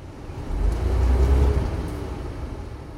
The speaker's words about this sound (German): Mitten auf der Strecke bleibt der Bus stehen. Ein LKW kommt uns entgegen. Nicht auf unserer Spur, sondern auf seiner eigenen. Aber der Flash ist trotzdem irritiert und hält vorsichtshalber an. Wir stehen.